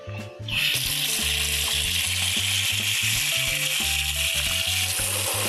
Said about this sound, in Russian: После того, как камни впитают воду, выйдут все пузырьки. Это знак, что пора работать на камнях. Наливаем.